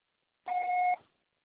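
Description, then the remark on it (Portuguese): A single steady electronic beep lasting about half a second, a clean tone with a bright overtone, sounding alone against silence before cutting off abruptly: the answering machine signal after which a message is recorded. “Gravo seu recado. Processado será tarifado após o sinal.”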